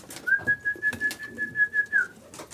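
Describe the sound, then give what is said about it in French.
Pigeons coo in a soft, steady series of throaty pulses, while a thin, high, unwavering whistle-like tone runs over most of the sound. “Ouais, parce que les pigeons sont sensibles, surtout à la gente féminine.”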